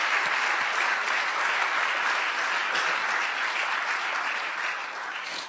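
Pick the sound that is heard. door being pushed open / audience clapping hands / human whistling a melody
audience clapping hands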